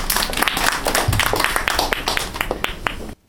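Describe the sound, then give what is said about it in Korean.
An audience breaks into applause to welcome two sons during a Korean recovery group's special Christmas broadcast, a dense patter of many hands clapping steadily for about three seconds before it cuts off abruptly. “우리 아드님 두 분 박수를 좀 환영합시다.”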